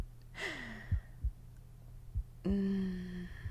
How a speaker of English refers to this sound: How's the breathing going? Are you still counting my heartbeats? Or just freestyling?